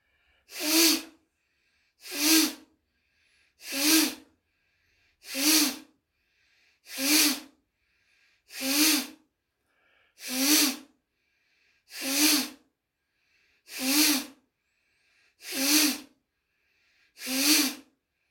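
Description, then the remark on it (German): Twelve sharp, forceful breaths pushed out through the nose in the Kapalabhati breathing exercise, in a steady rhythm of about one every second and a half, clear with quiet pauses between and no talking. “Gut, dann wollen wir es nochmal wiederholen, mal schauen, wie es jetzt geht. Kapalabhati wieder voraus.”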